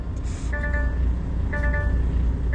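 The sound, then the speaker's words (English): A heavy car-carrying truck loaded with 10 cars, its wheels stuck in the stones beside the road after a failed U-turn, rumbles steadily while two short bursts of electronic reversing beeps sound about a second apart over the drone. “His wheels have got stuck in the stones on either side of the road, and now his truck can't move.”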